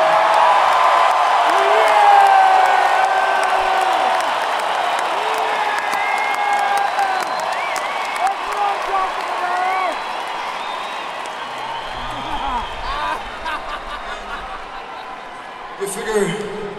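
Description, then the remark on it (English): A large crowd at a show in Portland cheers and applauds loudly and continuously, with rising whoops and shouted voices riding over a dense wash of clapping that eases slightly toward the end. “This is, we can't remember a crowd in Portland this good since about 1992 or 93.”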